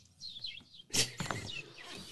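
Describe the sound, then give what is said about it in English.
Seagulls call out in a quick series of high, sweeping cries, with one louder, harsher squawk in the middle, with no one talking. “You could have the sounds of the ocean even. I will say the environment, John. Seagulls.”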